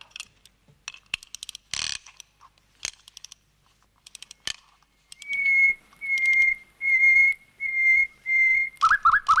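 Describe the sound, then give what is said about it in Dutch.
A golden mechanical nightingale toy set with diamonds, wound with a silver key, sings its birdsong: clicking and ratcheting from winding, then a run of steady, pure whistled notes repeated evenly, ending in quick warbling chirps, loud and alone. “Dit is bijna net zo mooi als het geluid van de echte nachtegaal.”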